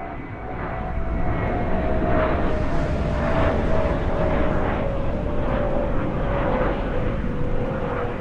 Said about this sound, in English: Well, we apparently could still use some help with jet noise. It's so loud that it's riling some residents of several Greater Boston communities.